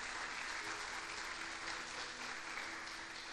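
church audience applauding

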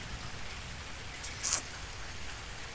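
rain falling outdoors

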